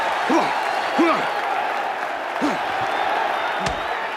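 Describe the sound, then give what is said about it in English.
A large crowd at the Balboa–Dixon boxing match roars continuously and loudly as Dixon is driven into the ropes with a series of shots. A dense wall of cheering, with individual shouts and yells breaking out above it every second or so. “And the crowd goes berserk.”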